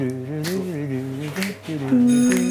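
A short, bright jingle plays: sustained, tuneful tones that step up and down in pitch over a couple of seconds, ending on a louder, held chord.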